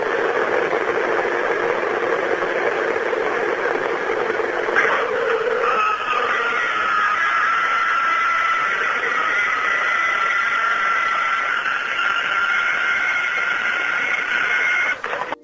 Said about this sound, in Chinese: 好啦，嗱呢个咧就系原先佢录到嗰个疑似外星人或者佢声称系外星人嘅尖叫声嘅时候嘅一个声音啦。